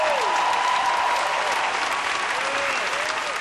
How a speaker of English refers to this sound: Can everybody please give a huge round of applause to this incredible collection of artists?